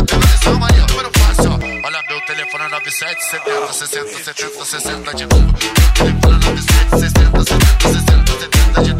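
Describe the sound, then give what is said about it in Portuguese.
A phone ringtone chirps briefly over a pounding funk automotivo beat, its bright electronic tone standing out as the drums drop away for a moment before the loud, bass-heavy rhythm kicks back in. “Alguém ligou pra mim.”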